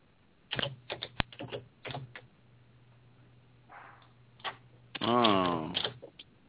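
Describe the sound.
Clicky keyboard typing in a few quick bursts over a low steady hum, heard through a thin phone line, followed by a brief muffled voice near the end.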